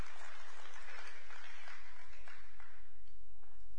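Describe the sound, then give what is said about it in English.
Steady crowd applause for the children as they are dismissed, a dense, continuous patter of many hands clapping at a fairly loud, even level for several seconds, with no voices standing out. “Big round of applause.”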